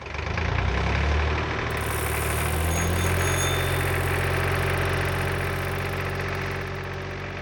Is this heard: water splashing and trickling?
no